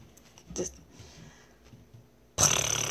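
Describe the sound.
A person tries to imitate a cat's purr, producing a low, raspy throat rumble with a brief sputter, then an abrupt, loud, harsh rasping burst near the end.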